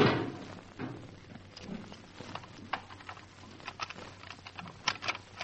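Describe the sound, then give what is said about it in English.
A theatre vestibule gate is worked open by hand to let someone in, with a run of light metallic clicks, rattles and a few dull knocks, moderately quiet, with no one speaking. “Watch your fingers in this gate now.”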